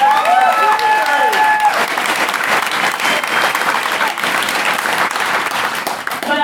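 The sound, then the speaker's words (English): Loud, sustained audience applause for Steve Dick, candidate for Guelph, at a Community Matters meeting, a dense wash of clapping with a few whistled or cheering tones standing out briefly at the start. “And Steve Dick is a fantastic candidate for Guelph, as you've just heard, and I can tell from the applause you give him that you agree with me.”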